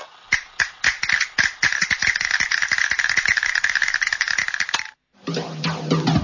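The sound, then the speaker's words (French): Mussel shells (mussels from Holland) clatter together in a dense, crisp rattle like a burst of applause, with a few separate clicks at first, then a steady flurry for about five seconds before it stops abruptly. “Oui, les moules, vous pouvez vous applaudir car ce week-end, les moules de Hollande sont à seulement 1,49€ le kilo”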